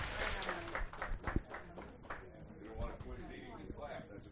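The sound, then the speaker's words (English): Audience applause with a fairly quiet, uneven patter of claps, denser at first and thinning toward the end, with voices murmuring underneath. “Give her a round of applause there.”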